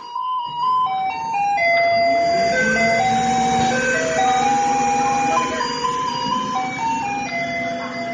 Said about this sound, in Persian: این ملودی توی تعداد زیادی از اسباب بازی‌های بچه‌ها گنجونده شده و حتی در تایوان فور الیز یکی از آهنگایی که از کامیونای زباله پخش میشه که به مردم خبر بده بیان پایین زباله‌هاشون رو تحویل بدن.